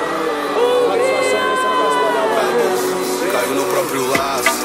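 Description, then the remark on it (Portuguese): A large live crowd at a music show shouts and cheers together when the performer calls for a shout, in a loud, sustained roar of many overlapping voices, with scattered higher whoops rising above the mass throughout. “Mãozinha lá no céu, quem tá feliz dá um grito. Chega mais um grito.”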